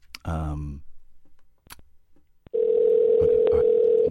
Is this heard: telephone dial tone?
yes